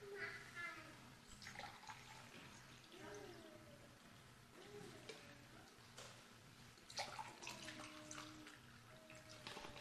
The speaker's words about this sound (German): Und ich möchte für Adam und Eva auch jeweils ein Glas mit Wasser füllen.